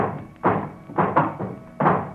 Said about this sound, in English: And there is in the passageway below a sound of heavy boxes being set down, boxes shaped like coffins. And I know what they hold. Boxes are filled with holy earth from the chapel beneath the castle.